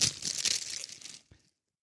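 Steady crinkling and rustling of a plastic bag being unwrapped from around a book for about a second, then a brief crackle before it falls silent.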